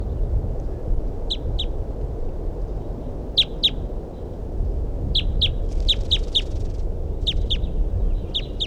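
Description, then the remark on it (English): A female crossbill calls in sharp, high-pitched chirps, mostly in quick pairs and short bursts, repeated irregularly over a steady low rumble of background noise. “That's a crossbill there that I saw or heard.”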